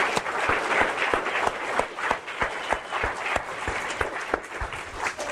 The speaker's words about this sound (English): You know what? Yeah. Let's give her a big round of applause, please.